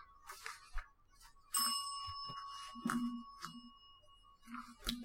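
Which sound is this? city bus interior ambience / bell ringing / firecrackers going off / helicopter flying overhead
bell ringing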